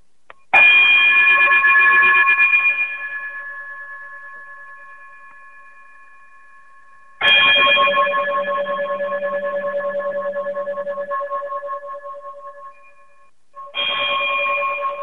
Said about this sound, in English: Brother Braggs, if you would be so kind to chime us out. Peace.